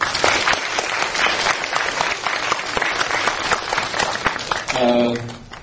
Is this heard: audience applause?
yes